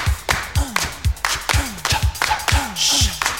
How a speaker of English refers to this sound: Everybody clap their hands.